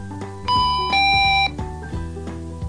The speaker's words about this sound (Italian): Dotati di una piccola fotocellula, avvisano della loro presenza chi passa davanti, provocando una pur minima alterazione di luminosità. L'uno con un doppio squillo elettronico.